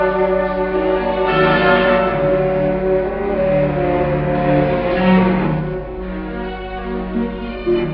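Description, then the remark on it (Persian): Church bells ring continuously and loudly, their overlapping tones blending into a dense, sustained peal with no pauses throughout. “تنین صدای ناقوس کلیساها در صدای قرش توپها فرو مرد.”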